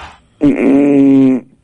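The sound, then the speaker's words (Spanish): A person snoring: one loud, buzzy rasp lasting about a second, held at a steady low pitch before cutting off abruptly, with no talking around it. “Alguien que está roncando. No, sí, está roncando.”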